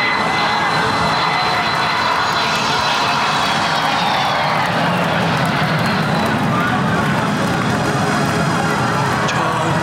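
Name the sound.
airplane engine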